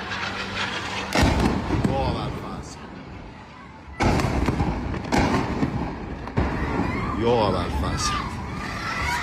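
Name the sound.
explosions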